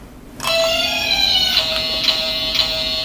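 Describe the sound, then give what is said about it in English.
A harsh, steady electronic game show buzzer starts suddenly and holds for about three seconds, dense with bright, raspy overtones and a faint pulsing in its texture, sounded when a contestant buzzes in during a trivia quiz game. “Yeah, well, you buzzed.”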